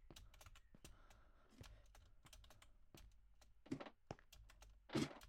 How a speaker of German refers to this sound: Digga, ich schaff nicht mal das erste Modul! Digga, ich drück sogar die Leertaste!